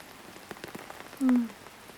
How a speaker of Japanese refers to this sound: うん、雨降ってるから。